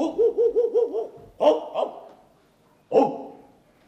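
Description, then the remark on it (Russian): A person imitates a dog barking: a quick string of five yappy woofs, then a louder bark, a short follow-up, a pause, and one final bark, fairly loud. “Лаешь ты бесподобно.”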